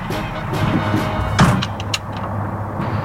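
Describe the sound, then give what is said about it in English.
Steady low engine rumble and road noise from inside a moving fire truck, with a couple of brief rattles and clunks partway through and no voices. “I am riding in the fire truck.”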